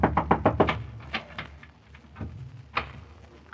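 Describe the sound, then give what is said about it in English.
A quick burst of about six sharp raps on a locked door by someone asking to be let in, then a few slower, scattered knocks, loud and hard, with no voices. “Jim, let me in!”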